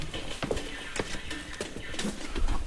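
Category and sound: impact, footsteps walking up stairs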